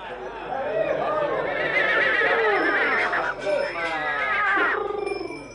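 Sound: horse neighing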